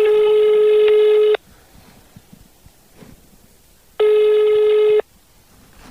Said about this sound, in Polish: Pod numerem też tego telefonu nikt nie odbiera.